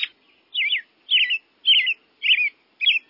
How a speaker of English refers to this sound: cheery song belongs to the American robin. Belting out this distinctive message is one way that male robins defend their breeding territories from invasion by other robins.